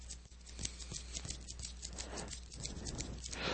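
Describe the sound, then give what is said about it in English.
Light, irregular snapping clicks of fingers patter steadily for several seconds, fairly soft, imitating a gentle sprinkle of raindrops over a constant low hum. “And then it goes into snapping the fingers, which sound like little raindrops.”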